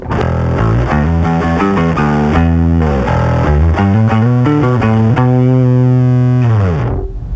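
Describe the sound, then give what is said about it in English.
A heavily fuzzed electric guitar played through a fuzz pedal plays loud, saturated sustained notes and bends, thick with distortion and dense harmonics, ringing out alone before cutting off at the end. “There's one song where Jade is playing acoustic guitar, and I'm countering that with the nastiest fuzz sound.”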